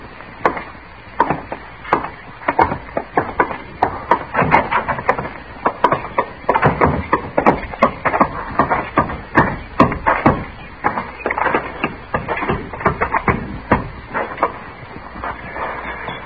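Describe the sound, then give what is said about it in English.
A wooden fence being built out back: a steady series of sharp, hollow knocks and thuds as wood is struck, coming in irregular bursts of two or three per second with no voices. “Out back, building the fence.”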